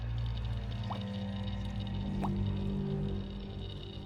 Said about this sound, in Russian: Она медленно переводит взгляд на яму, в которой под ржавыми трубами пузырится грязная жижа.